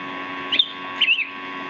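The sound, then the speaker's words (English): A pet bird gives two short, high chirps about half a second apart, fairly soft, over a steady low background hum with no one talking. “I hear your bird. Say hi to your bird.”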